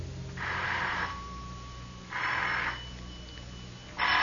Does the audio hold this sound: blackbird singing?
no